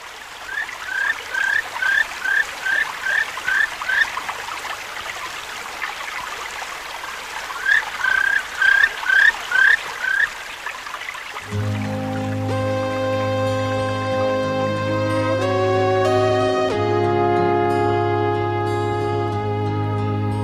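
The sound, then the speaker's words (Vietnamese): A steady, gentle rush of a babbling forest stream, with bursts of rapid bird chirping over it, before music takes over in the second half. “Ra đến bìa rừng, nghe tiếng chim hót líu lo, suối chảy róc rách, cô đã chạy tọt vào rừng.”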